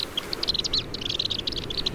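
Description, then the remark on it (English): A rapid stream of high, thin chirps and twitters from a black swift, rattling out in quick bursts with brief gaps, fairly faint against a soft background hiss. “Black swifts are extraordinary birds.”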